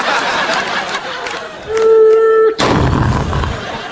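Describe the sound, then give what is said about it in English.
A car smashes into a closed garage door: a steady horn-like tone cuts off into one loud, abrupt crash, followed by a low, rumbling clatter of noise. “Forgot to open the garage door, man.”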